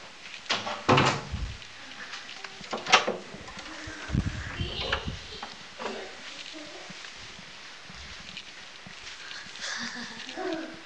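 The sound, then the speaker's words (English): A door bangs shut, with a couple of sharp knocks and a rattling thump in quick succession, followed by shuffling and faint, indistinct voices. “Close the door. No, don't close the door.”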